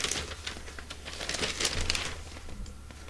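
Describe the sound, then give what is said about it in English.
Newspaper pages rustle and crinkle continuously as they are turned to find page 6B, a dry crackling with irregular bursts and no talking. “I'm playing up the paper, can you tell?”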